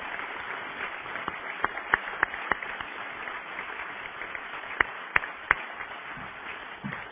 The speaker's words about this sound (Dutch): En ik denk dat een applaus nog steeds op zijn plek is.